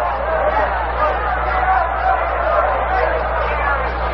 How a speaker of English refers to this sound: Pitch is in there for a called strike. It's 2-1, and the roar you hear is an appreciative reception from the crowd of the first strike of the ball game.